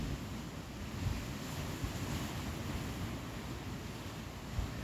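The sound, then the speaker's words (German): Steady ocean waves wash and roar continuously, a broad rushing surf sound with gentle swells, mixed with some wind buffeting, heard alone without any voices. “Höre die Wellen an.”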